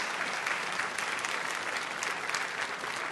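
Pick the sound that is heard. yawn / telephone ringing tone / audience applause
audience applause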